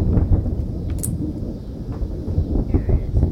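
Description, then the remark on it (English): A deep, continuous rumble of thunder rolls through the whole stretch, low and heavy with slight swells in loudness and no voices over it. “Thunder. Oh. Lots of it.”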